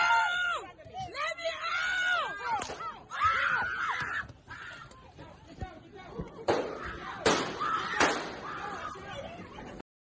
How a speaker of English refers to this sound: She couldn't help it. She had done a full documentary filming. No yelling, no noise. She had done a perfect job up to then. But now she couldn't help it. She released the classic black woman yell on all videos you'll ever see.